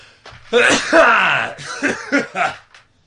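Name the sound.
sneeze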